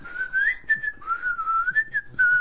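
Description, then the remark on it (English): Someone whistles a short wandering tune during a game of Scrabble, the clear pure tone sliding up and down in pitch through a few connected phrases, steady in volume, with no talking. “So you were whistling after you had your go as well?”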